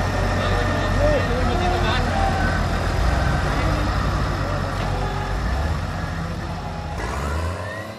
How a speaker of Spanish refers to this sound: ¡Mirá! Acá hay un tractor, pegándote la basura.